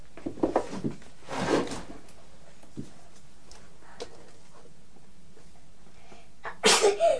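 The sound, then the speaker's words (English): Two forceful sneezes several seconds apart, the first preceded by a sharp intake of breath, with a few faint knocks and quiet in between. “Bless you.”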